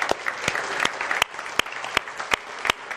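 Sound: audience applause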